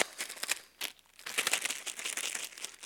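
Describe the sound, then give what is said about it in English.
Crisp crinkling and rustling of paper shaken inside a bag to demonstrate a random process, a continuous irregular burst of crackles with brief pauses between shakes. “So I have this bag, all right? This is random process.”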